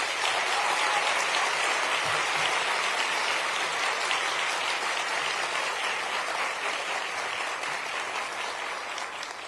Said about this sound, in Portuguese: E também dividi essa menção honrosa com a nossa querida Simone Benazzi, a quem peço realmente uma salva de palmas.